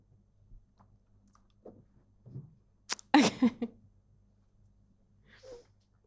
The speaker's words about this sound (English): I'm also going to take a sip of water because I'm fine.